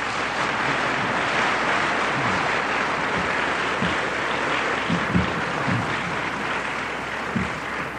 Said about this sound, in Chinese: 你们这里鼓掌是这一次到各地区最热烈的。